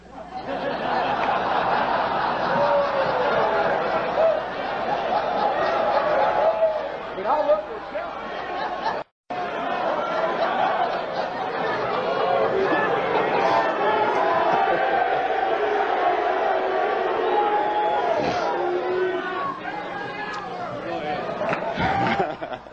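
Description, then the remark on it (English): A crowd shouts loudly and continuously, voices overlapping in a dense roar with bursts of laughter mixed in. A brief silence breaks it at about nine seconds before the shouting resumes. “all this shouting, is that going on my time?”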